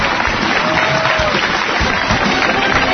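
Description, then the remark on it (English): A crowd breaks into loud, steady applause, dense clapping filling the whole stretch at an even level with a faint murmur of voices underneath. “Don't applaud, he'll fall.”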